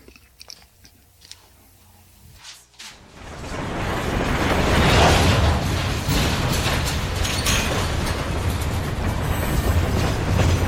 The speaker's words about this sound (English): The train came to a halt inside the dark shadows of the canyon walls, and we abandoned it.